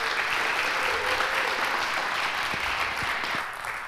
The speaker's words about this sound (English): With that, I want to thank you. Everybody give Clover a round of applause.